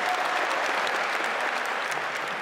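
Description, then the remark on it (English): A crowd claps steadily, a dense, continuous wash of many hands at a fairly strong level, with no pauses and no voices standing out. The audience at a free fight event applauds veterans of the Spetsnaz forces. “We have several veterans among us, members of our country's most successful and prestigious forces, the Spetsnaz, and we applaud them.”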